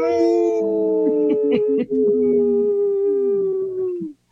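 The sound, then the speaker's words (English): Several voices let out long, overlapping wolf-like howls for about four seconds, one of them breaking into choppy, laugh-like bursts, before the group howl fades out. People imitate wolves during the Native Roots Radio show I'm Awake. “There was one wolf that was laughing and not howling.”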